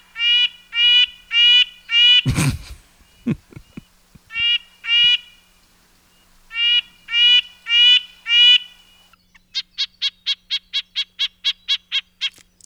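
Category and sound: bird, red-breasted nuthatch calls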